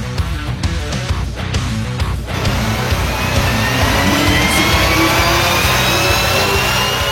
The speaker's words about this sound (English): And once again, the sound, the siren sound of Ted Seifert's 1987 Dodge Omni, fueled by American ethanol. Clean burning octane, baby.